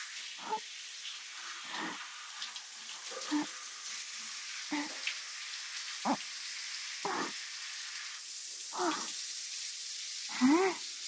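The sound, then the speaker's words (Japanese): A steady hiss of shower spray runs throughout as it rinses soap off the left arm, broken by about eight soft, regular splashing surges as water streams over skin, moderately quiet. “そのまま次は左腕もシャワシャワシャワシャワシャワ。”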